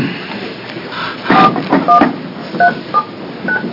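A series of short, distinct touch-tone beeps as a phone number is dialed to place a call to an officer joining a committee meeting by phone, about six tones at uneven intervals, set against a low background hum with no talking.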